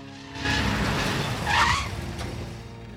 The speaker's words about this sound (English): The truck then sharply turns a corner